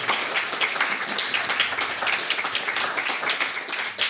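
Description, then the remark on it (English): An audience at an evening event applauds itself for coming out, eating the food and having fun, a dense, even wash of many hands clapping at once for several seconds with no talking over it. “Please give yourselves a round of applause for coming out and eating the food and having fun.”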